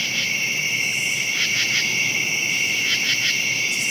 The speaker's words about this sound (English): Okay, so about 2 o'clock in the morning, most of these insects are winding down for the night. The crickets aren't. You'll hear the crickets all night.